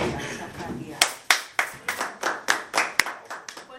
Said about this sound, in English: And the way we say thank you, we clap.